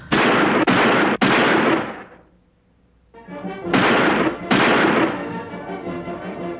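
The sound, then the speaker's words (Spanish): Loud gunshots ring out at a ranch party, a few sharp cracks with heavy rolling echo, then a brief lull before another volley of shots and a lingering reverberant tail. No voices. “En esas andaba, con la mente ocupada en otras cosas, cuando escuché unos balazos.”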